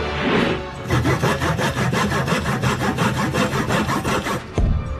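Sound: sawing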